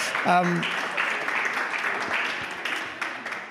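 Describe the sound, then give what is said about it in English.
An audience applauds to welcome two guests who have come from Melbourne, in a steady, dense wash of clapping that holds for a few seconds, with a brief voiced cheer or call rising at the very start. “So a little round of applause as a way of welcoming these guys.”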